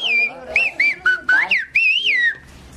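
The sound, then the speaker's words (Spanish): A loud whistled message in the Silbo Gomero whistled language of La Gomera: a rapid string of piercing, speech-like whistled syllables that glide up and down in pitch, then fade out. “Entonces algunos gomeros, conscientes de su importancia, tomaron la iniciativa de introducir el silbo como asignatura en los colegios.”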